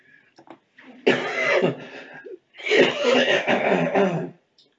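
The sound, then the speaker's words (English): Two harsh, raspy bursts of a lingering cough, each lasting over a second, separated by a brief pause, with a few faint throat sounds just before. “Still got that lingering cough.”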